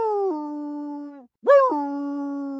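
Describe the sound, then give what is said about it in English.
A dog howls twice in response to a siren, fairly loud: a long sustained wavering howl, a brief pause, then a second howl that rises sharply before holding steady. “Instinctively, I jumped up from my cozy sleeping space on the floor and howled back.”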